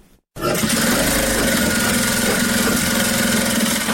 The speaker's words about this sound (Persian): ماشین های خیاطی برقی در یک سالون کلان بر میزهای مخصوص گذاشته شده و دختران توسط آن لباس می دیزند.